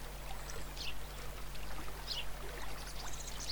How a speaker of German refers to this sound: Das Plätschern entwickelt sich langsam zu einem angenehmen Rauschen. Und auch auf dem Weg kannst du erkennen, dass du dem Wasser immer näher kommst.